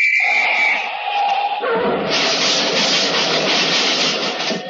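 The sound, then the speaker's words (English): A traffic whistle is blown to get across a busy street: a loud, shrill blast sounds for over a second, then gives way to a burst of harsh, rushing noise with a pulsing high-pitched hiss that continues to the end. “I has me little traffic whistle with me. I'm going to blow it.”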